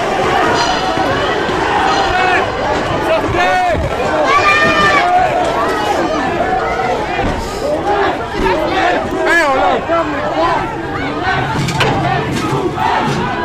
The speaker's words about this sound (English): Oh, some people are now moving. Police are running towards us, and they've just put some explosives, gases, and people are rushing outside.